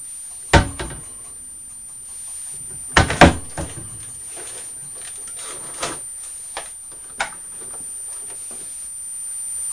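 A cupboard door is banged open and shut with a few sharp wooden knocks and clatters, a loud bang early, a cluster of thumps soon after, then lighter taps, with faint rattles of the glasses inside the cupboard and no talking.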